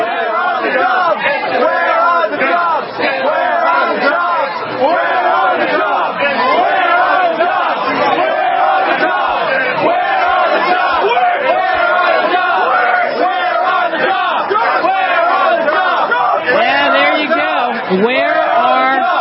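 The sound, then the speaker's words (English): A large crowd chants together, many voices blending into a loud, steady roar of shouted phrases that carries on without pause for the whole stretch. “But let's let the crowd speak for a second, and let's see if you can make out what they're saying.”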